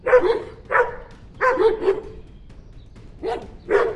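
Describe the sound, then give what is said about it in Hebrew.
Two dogs, Pluto and Azit, bark in short, sharp bursts as they leap toward someone: six or so mid-pitched woofs in uneven clusters, some doubled, with brief pauses between them and no voices. “לפתע, שני כלבים זינקו לעברה במביכות הזאת.”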